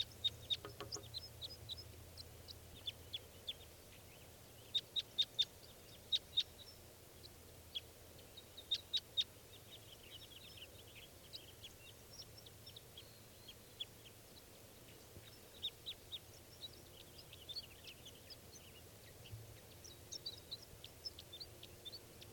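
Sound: female bird calling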